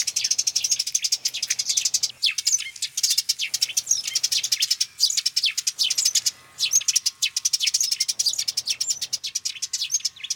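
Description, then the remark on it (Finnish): A male Eurasian tree sparrow sings with full effort: a busy, high-pitched chattering song of rapid chirps and scratchy rattling notes, with warbler-like, slightly melodic twittering between the rattles, delivered in dense bursts separated by brief pauses, with no talking. “Koiras lauloi, minkä osasi. Rätinälyöntien välissä kuuluu tiltalttimaista, hieman melodista silputusta.”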